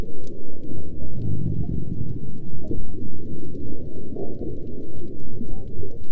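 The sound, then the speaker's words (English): Low, rumbling underwater bubbling as a mother gray whale pushes air through the water beneath its baby, a steady stream of gurgling pulses, fairly loud and continuous throughout with no voices. “So to me, that sounds like air or bubbles in the water, and that's exactly what I think it is.”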